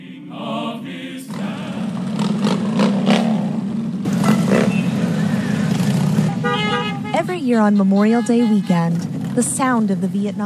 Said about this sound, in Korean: 또 퇴역 군인들에 대한 감사를 잊지 말자는 취지로 오토바이 수천 대의 행렬이 펼쳐집니다.